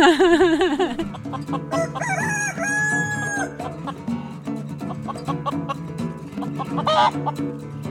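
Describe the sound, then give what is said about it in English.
Backyard chickens cluck while a rooster crows loudly, its long wavering call rising above a steady musical backing that carries on under the birds throughout. “I'm a backyard chicken farmer”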